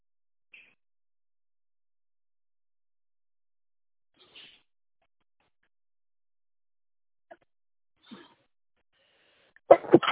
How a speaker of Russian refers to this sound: Простите, будьте здоровы.